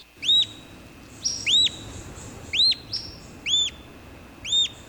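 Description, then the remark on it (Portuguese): An olivaceous woodcreeper in Iguaçu National Park sings a series of five sharp, rising-and-falling whistled notes, evenly spaced about a second apart, clear over a soft background hiss. “o canto do Arapaçu Verde, uma das aves identificadas, uma das espécies identificadas no Parque Nacional do Iguaçu.”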